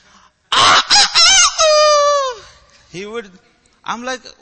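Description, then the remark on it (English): A rooster outside lets out one loud, full crow at 5 o'clock: a few sharp opening notes that stretch into a long, harmonic wail sliding downward. Two fainter, shorter calls follow after a pause. “And there was this rooster outside.”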